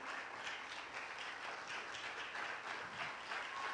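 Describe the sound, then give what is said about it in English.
Steady, dense applause from a crowd at a 2020 graduation ceremony as graduating seniors in caps and gowns come forward, many hands clapping at once in a continuous wash of sound that stays even and fairly loud throughout, with no voices standing out. “Come on, let's give them a big round of applause.”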